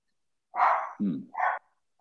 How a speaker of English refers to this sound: That dog? Well, wait. My kids saying they'll watch the dogs. And they don't. And they're outside in the backyard and the dogs are barking.